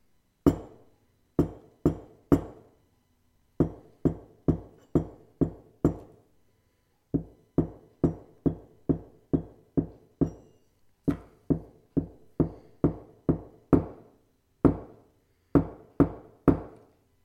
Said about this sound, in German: Ich stelle mir immer vor, ihr zu Hause hört nur das Klopfen und denkt, wer klopft denn da? Was soll das sein? Das ist doch kein Lied.